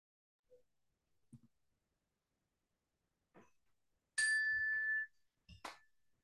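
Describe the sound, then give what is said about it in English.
A single bright struck meditation bell rings out clearly, sustaining for under a second before cutting away, with a few soft faint rustles and breaths around it, otherwise quiet. “You can just enjoy the sound of the bell as it fades.”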